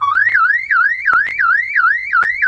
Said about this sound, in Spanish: No es la alarma de la casa, ni del auto. No es la alarma del negocio, ni del banco. Es la alarma de la infancia.